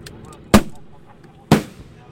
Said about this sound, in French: Alors là, ça va secouer aussi un petit peu. Hein. Là, je vais tirer une fusée détonante. Mais ça risque rien pour les oiseaux. Ça va leur faire peur pour savoir s'ils sont toujours là.